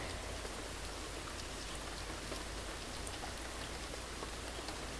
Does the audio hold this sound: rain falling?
yes